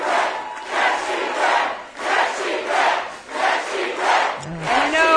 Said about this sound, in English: What are they yelling? Yes, she can. Oh, I thought they were yelling, yes, she did. It's like a Monica Lewinsky cheer.